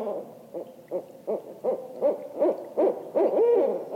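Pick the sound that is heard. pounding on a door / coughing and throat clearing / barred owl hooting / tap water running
barred owl hooting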